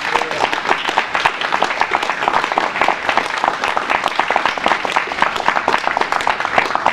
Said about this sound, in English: So let's all give him a big round of applause.